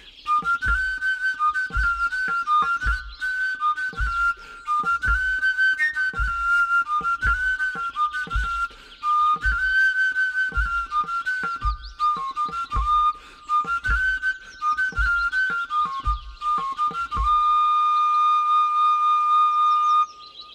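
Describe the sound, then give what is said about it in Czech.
A willow bark whistle plays a bright, bouncy repeating tune over a steady low thumping beat, fairly loud, ending on a long sustained note. “Změníme materiál, po vrbové píšťale přijde na řadu bambusová flétna”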